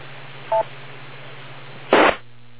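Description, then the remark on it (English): A single short electronic beep on an amateur radio net, the TechNet, with a steady mid-high pitch over low radio hiss and hum, followed about a second and a half later by a louder, brief burst of static. “Make sure you wait for the beep,”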